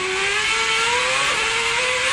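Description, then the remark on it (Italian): A racing car engine heard from the onboard camera on Alonso's car, loud and continuous, its high-pitched whine climbing slightly in pitch over a steady rush of wind and mechanical noise. “Sono on board, sono sulla macchina con Alonso.”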